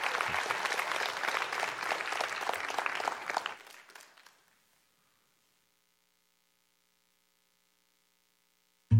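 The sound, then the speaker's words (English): A church audience applauds a family with dense, steady clapping for about four seconds before it fades out into near silence, followed by a brief low thump at the very end. “Can you give them one more round of applause?”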